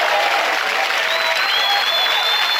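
A round of applause from a crowd, dense steady clapping that fills the whole moment at an even, fairly loud level, with a thin whistle-like tone rising faintly above it.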